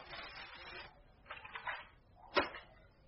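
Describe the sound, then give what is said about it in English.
Paper is torn by hand to kindle a fire in a fireplace: a long rasping rip, then a few shorter crackly tears, and a sharp crisp snap near the end, with no one talking. “I will shred a little paper.”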